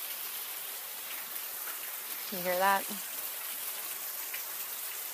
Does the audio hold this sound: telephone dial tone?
no